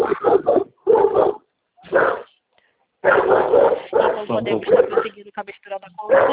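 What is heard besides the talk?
dog barking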